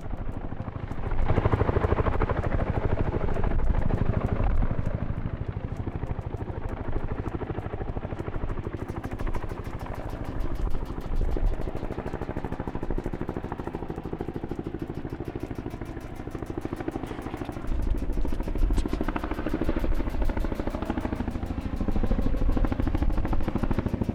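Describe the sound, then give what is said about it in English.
A large twin-rotor helicopter hovers overhead while filling its bucket with more water, its heavy, steady thudding roar filling the scene with a constant low rumble and rattling clatter, no voices present. “And what you can hear in the background here is that large dual propeller chopper filling up it more water.”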